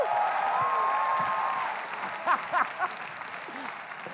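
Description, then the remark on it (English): A church crowd claps steadily in a dense, sustained wash of applause, with a long whistle and scattered shouts and cheers from single people rising over the clapping before it begins to thin out. “But we can bring, okay, yeah, let's clap that. Let's go single people. Give us a shout if you're single.”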